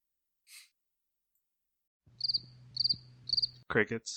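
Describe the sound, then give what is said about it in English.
Three quick, evenly spaced bursts of cricket chirping over a low hum, preceded by a soft breath and followed by a short breathy vocal sound. “Crickets.”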